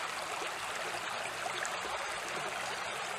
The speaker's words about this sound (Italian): Oggi ho un'inquadratura un po' laterale, volevo mostrarvi anche lo scorrere di questo ruscello meraviglioso.